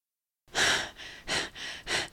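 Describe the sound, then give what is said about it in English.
Heavy, rapid panting from a person running at a swift pace along a road at night: a quick run of breathless in-and-out gasps, starting after a brief silence and keeping a steady, urgent rhythm with no talking. “I panted, disengaging my hand from his.”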